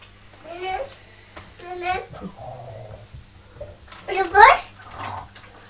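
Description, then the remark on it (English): A young child's voice imitating bus brakes: a few short, high, squealing vocal bursts, then a louder hissing, squeaky burst. Another voice murmurs faintly in between. “When you've been on the bus, what do the brakes do?”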